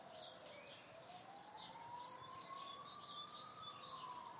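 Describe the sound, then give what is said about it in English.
An emergency siren wails steadily, its pitch slowly rising and falling over a dense city rumble, while faint bird calls chirp intermittently above the noise. “I can hear them here, they're there somewhere, in amongst the cacophony and the sirens.”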